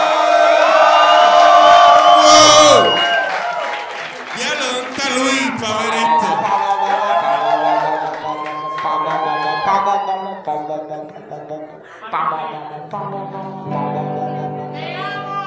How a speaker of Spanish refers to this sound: Porque ahora les voy a presentar al dúo más importante de América Latina, hispano parlante. ¡Un fucking fuerte aplauso